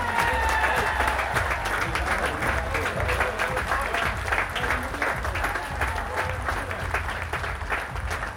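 Sustained, dense applause from a crowd, steady and loud throughout with many overlapping claps, a brief high whistle or tone sliding near the start.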